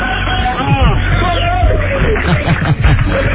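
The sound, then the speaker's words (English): A crowd of fans cheering and clamoring outdoors as they gather for an arriving bus, some cheering from upstairs and throwing down dollar bills; a dense, steady wash of many overlapping voices that stays loud throughout, with no single speaker standing out. “We've got upstairs cheering, throwing down dollar bills.”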